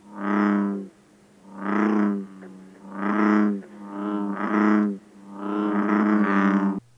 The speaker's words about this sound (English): And bullfrogs.